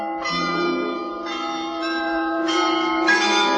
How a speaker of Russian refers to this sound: В перезвонах лоретанских колоколов.